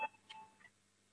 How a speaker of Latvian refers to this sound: Lūdzu zvanu balsosim par likuma projektu grozījumi Latvijas Republikas zemesardzes likumā otrajā lasījumā. Lūdzu balsosim.